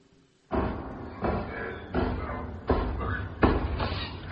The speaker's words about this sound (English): It is a knocking indeed. If a man were a porter of Elm Gate, he should have old turning the key.